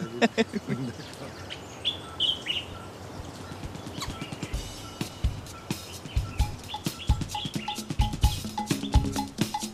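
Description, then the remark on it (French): Green wood hoopoes, metallic blue birds with long orange bills, call in a harsh, rapid cackling chatter, loud, with dense clucking bursts that speed up toward the end. Fainter birdsong sits in the background. “Ah, un hérisson moqueur. Alors, c'est un oiseau magnifique. Il est bleu métallique. Le bec est allongé, orange.”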